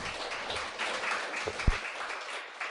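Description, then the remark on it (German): An audience applauds steadily for a speaker who has just finished a lecture, a dense wash of many hands clapping at once, sustained and fairly even, with no voices rising above it. “Ja, Sie dürfen mich klatschen.”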